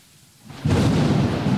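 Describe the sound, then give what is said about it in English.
A thunderstorm sound effect swells in after a brief quiet moment: heavy rain hisses loudly with a deep rumbling underneath, sustained, with no voices. “I'm guessing it was, you know, it was raining apparently.”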